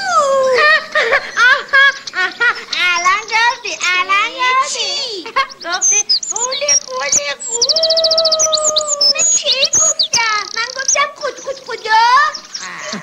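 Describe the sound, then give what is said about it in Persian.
Baby chicks chirp in a busy, high-pitched chorus of quick rising peeps that overlap continuously, sounding like voices imitating chicks with a childlike, chattering quality. “سلام جوجه کوچولوها.”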